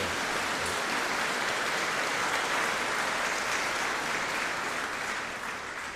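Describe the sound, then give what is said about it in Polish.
An audience of parishioners applauds steadily for several seconds, a dense wash of many hands clapping at an even level that fades slightly toward the end, with no voices over it. “No i oczywiście tym wszystkim, którzy teraz klaszczą, czyli parafianom.”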